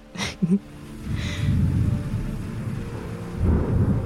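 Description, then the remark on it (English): A deep, rumbling roll of thunder swells and lingers over a steady wash of rain falling in sheets in the early morning. There are a couple of sharp crackles at the start and a second surge of rumble near the end. “Thunder claps, the rain falls in sheets.”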